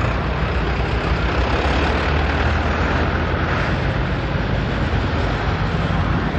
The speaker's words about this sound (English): the first wave of farm vehicles is now arriving. With temperatures in the teens, the protests got off to a slow start. There was trouble getting some of the tractors running, but they finally made it.